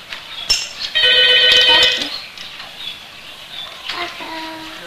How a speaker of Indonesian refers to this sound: Duh, angkat teleponnya. Mas. Kemana, Pak? Ada telepon.